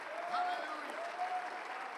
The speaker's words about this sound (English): Somebody say, praise the Lord. Clap your hands to him. Lift up a voice. Praise to him.